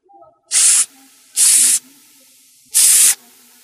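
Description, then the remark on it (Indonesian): A cobra spits venom at a human footprint in three short, harsh spraying hisses, bright and loud, each lasting a fraction of a second, with a longer pause before the last burst. No one speaks. “Ular tedung menyemburkan bisanya agar Bengkarung yakin bahwa ia sedang mengeluarkan seluruh tenaganya untuk menyembur jejak manusia itu.”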